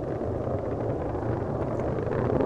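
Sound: space shuttle engines roaring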